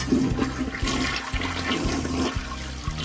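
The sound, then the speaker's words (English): A toilet flushes with a loud rushing whoosh of water that churns steadily for a few seconds, with gurgling low rumbles underneath and no voices. “To my mind, it's like the whoosh of the toilet as you flush.”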